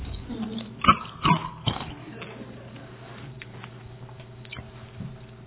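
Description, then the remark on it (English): Crunching of someone chewing a cough drop: three sharp crunches in the first two seconds, then softer, quieter mouth sounds over a faint steady background hum. “Chewing my cough drop.”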